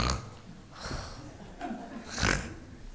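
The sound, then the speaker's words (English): Rough, nasal snoring in a few rasping bursts roughly every half second to second, each a throaty snort-like rattle with breathy air between, fairly loud, with no talking. “None of them could stay asleep with …'s awful snoring.”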